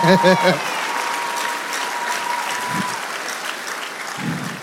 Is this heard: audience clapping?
yes